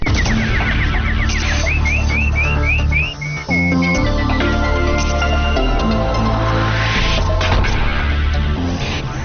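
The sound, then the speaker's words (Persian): A run of quick, rising nightingale-like chirps repeats about seven times in a steady rhythm, set against a loud, dense music bed that continues after the birdsong fades, introducing the news headlines. “اینک مشروع خبرها با چهچهی همکارم بلبل.”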